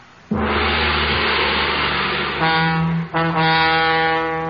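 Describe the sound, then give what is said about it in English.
A great gong is struck, its loud metallic roar swelling and sustaining, then struck again twice, adding bright ringing overtones to the shimmering wash. No one speaks. “Sound the great gong.”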